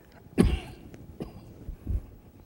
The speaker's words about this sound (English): I'm coughing